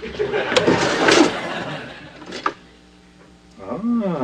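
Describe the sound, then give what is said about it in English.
A utensil drawer slides open with a burst of clattering as someone rummages through metal utensils looking for a can opener, a sharp knock follows, and then a voice begins speaking briefly at the end. “The can opener is in the utensil drawer.”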